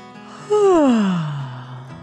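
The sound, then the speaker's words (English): A narrator gives one long, drawn-out yawn for the hippo Henrietta opening her mouth wide, pitch sliding steadily downward from a strained high start to a low breathy finish, fairly loud with no other sound. “Then Henrietta opened her mouth wide in a huge yawn.”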